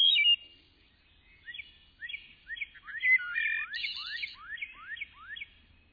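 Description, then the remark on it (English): A wood thrush sings flute-like phrases, a quick run of rising, liquid whistled notes layered and repeating, clear over a quiet background with no talking. “shady woodlots will once again echo with the flute-like music of the wood thrush.”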